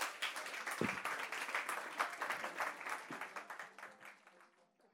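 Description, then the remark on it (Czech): A theatre audience applauds a magic trick by actor and magician Roman Štabrňák with a dense, steady patter of many hands clapping, with a few voices briefly rising within it. The clapping slowly thins and fades away at the end. “Já tenhle pocit přesně mám, zatleskat můžete a budeme si za chviličku zase povídat s naším dnešním hostem Romanem Štabrňákem.”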